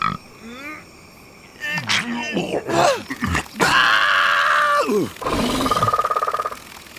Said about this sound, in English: I'm here to save you, and what is that? I think it's a bullfrog, and right now it's using me as a toothpick.